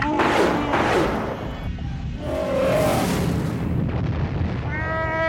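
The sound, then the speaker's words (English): Arakeet missiles fired from the Falcon strike a destroyer in a direct hit with a loud, booming explosion, heavy rumbling blasts and whooshing bursts rolling on, while high electronic whines and tones sound over the din. “Chewie, fire the Arakeet missiles.”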